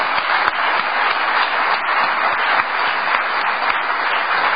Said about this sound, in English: These people have just done one hell of a job, I'll tell you, and they really deserve a round of applause here.